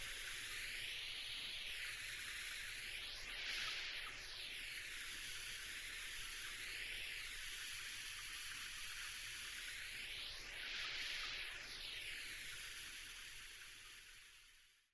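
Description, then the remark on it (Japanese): A steady shower spray hisses for the whole stretch as it wets a person's hair before shampooing, its tone slowly sweeping and shifting as the stream moves across, fading out at the very end. No voices. “ではまず髪を濡らしていきますので、目をつむっていてくださいね。”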